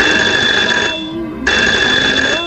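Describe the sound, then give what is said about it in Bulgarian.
A telephone rings loudly in two long, shrill, buzzing bursts separated by a brief pause, with no one speaking: the phone of Los Angeles police sergeant Jack Clemons, ringing at 4:25 a.m. on 5 August 1962. “На 5 август 1962 година в 4 часа и 25 сутринта телефонът на сержант Джак Клеманс от полицията в Лос-Анджелис звъни.”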